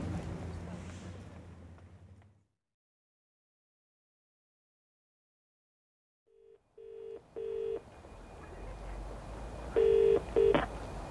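A phone number is punched in: a string of short, bright keypad beeps in two bursts with a pause between, clear over a steady background hiss after a brief silence.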